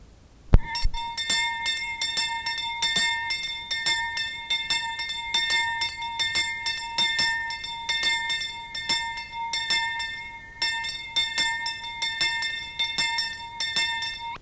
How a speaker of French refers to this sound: Vers 10h30, la cloche fêlée de la petite église commença à sonner et les gens se réunirent pour entendre le sermon du matin.